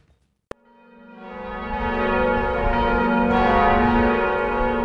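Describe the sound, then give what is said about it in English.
The bells of Strasbourg Cathedral ring out in a full, swelling peal during a 10-minute ringing, their overlapping tones building into a loud, sustained wash of sound with no voices present. “The bells of Strasbourg Cathedral rang for 10 minutes in tribute to Notre Dame Cathedral following its partial destruction in this week's fire.”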